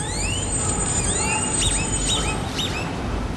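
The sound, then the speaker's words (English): Grackles, dark birds found everywhere in the city, call repeatedly with rising squeaky whistles and arching, staticky, electronic-sounding chirps that overlap one another, set against a steady background hiss with no voices. “Here's a more natural sound, the grackle. This dark bird is everywhere here, but it sounds kind of like a staticky piece of technology.”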